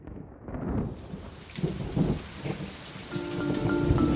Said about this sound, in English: An annoying drizzle varnishes the city with a dirty gray